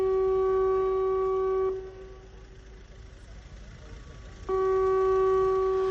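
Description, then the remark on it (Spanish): Alarm sirens at the dam of the Navacerrada reservoir in the Sierra de Guadarrama warn of a possible dam failure after heavy rain and snowmelt: a loud, steady droning tone cuts to a fainter hum for a few seconds, then blasts again at full strength. “Suenan las sirenas de alarma en la presa del embalse de Navacerrada, alertan de la posible rotura.”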